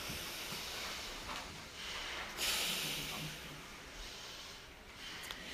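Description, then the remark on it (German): Three slow, deep breaths, each a soft, airy rush of hissing noise, drawn in and let out with short pauses between, and no talking. “Einmal vielleicht tief atmen. Drei tiefe Atemzüge.”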